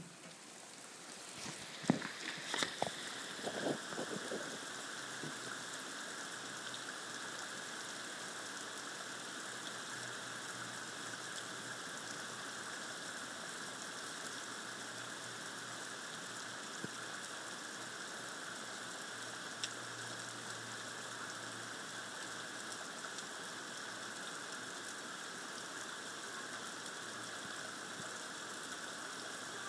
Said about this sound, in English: So can hear the thunder and rain.